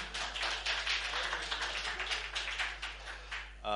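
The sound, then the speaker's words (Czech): An audience claps steadily for several seconds for a man called up to share his experience, a dense, crackling wash of many hands at even loudness, before a voice starts speaking right at the end. “můžete mu zatleskat, dobře.”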